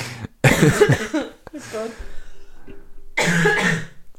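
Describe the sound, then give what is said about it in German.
Several harsh coughs in a row: a quick first hack, a longer raspy fit, and another loud burst after a short pause, with throaty breathing between them. “Du musst einfach wirklich nicht leise sein, wenn ich huste.”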